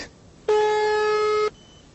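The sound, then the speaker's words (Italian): A single telephone ringing tone, one steady electronic note with a buzzy edge that lasts about a second, loud, then cuts off sharply, leaving faint background hiss. “Altri due squilli e poi uno”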